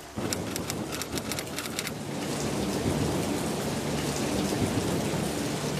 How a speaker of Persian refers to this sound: با این بارون سرما چه میکنه؟